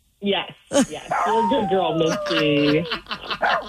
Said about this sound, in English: Is that what your doodles sound like, Steve, when they howl?